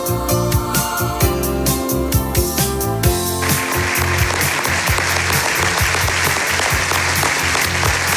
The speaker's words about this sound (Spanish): Esta es la ovación que recibió Ousmane Oumar tras su ponencia en el IS Business School, donde ha terminado su maestría en dirección de empresas.